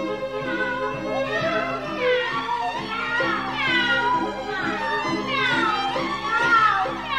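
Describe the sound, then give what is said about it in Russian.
A continuous chorus of cats meowing and caterwauling together as a serenade, overlapping yowls sliding up and down in pitch, loud, over a steady rhythmic musical backing throughout. “Друзья, давайте играть все вместе... Кошачий концерт.”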